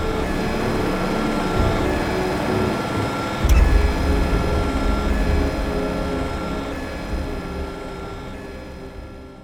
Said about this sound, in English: Lower the drone!